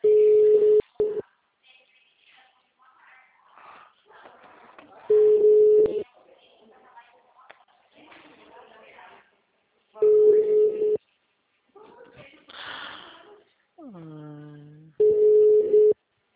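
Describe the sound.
A telephone ringback tone purrs four times before the call is answered, each steady, mid-pitched burst lasting about a second and spaced roughly five seconds apart, with faint muffled voices and noises in the gaps.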